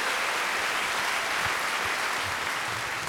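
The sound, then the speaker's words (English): A live audience claps steadily for about three seconds, voting that a quote was by Samuel A. Alito, a dense, even patter of many hands with no pauses and no voices standing out. “Clap if you think that was Samuel A. Alito.”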